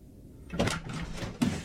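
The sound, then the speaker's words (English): A front door swings open with a scraping, rattling sound as a man staggers in, arriving home late, then a second sharper knock or bump as it moves again. No voices. “He staggers through the front door, looking rather the worse for wear.”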